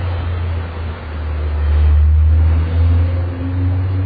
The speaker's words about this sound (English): Maybe you find the noise of the traffic annoying.